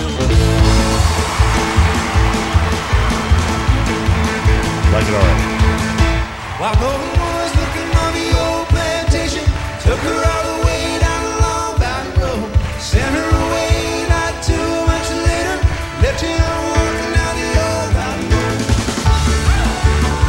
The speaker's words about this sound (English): And it's a live recording. There's no trickery here. Love the song. Don't necessarily love the recording. Would that be? Yeah, it's. Fair? I mean, it's a rather cavernous capture, I think.